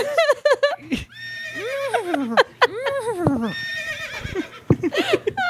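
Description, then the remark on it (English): A person imitates a horse whinny in a long, wavering, rising-and-falling whinnying cry, loud, with a few short breathy bursts between stretches and a steady low hum underneath. “See, aren't you glad you made that horse noise now?”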